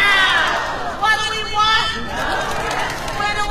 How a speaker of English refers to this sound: That's L.A. County Federation of Labor President … rallying the crowd at a tenant worker solidarity march in downtown L.A. this past weekend.